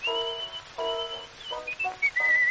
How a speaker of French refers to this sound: Je siffle mon petit couplet.